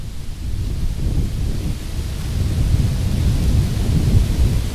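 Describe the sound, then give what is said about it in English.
Strong wind gusts buffet the microphone, a loud, continuous low rumble that surges and roars unevenly for several seconds, with no voices. “Jeez, I told you it's windy.”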